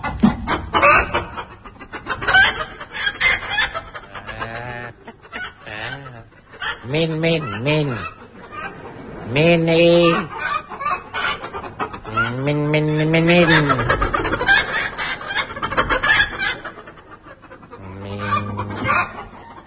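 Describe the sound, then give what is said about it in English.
A voice imitates a chicken, letting out a run of rising-and-falling squawks and clucks, fairly loud, with bursts of talk-like chatter in between. “Stop calling that chicken Minnie.”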